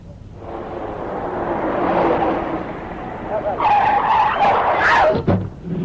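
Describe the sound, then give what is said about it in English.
A car's engine roars and builds, then its tires let out a long, loud, high-pitched screech as it skids in a road accident in Spain, breaking off abruptly near the end. “Step off the jet and the first thing you see is a road accident.”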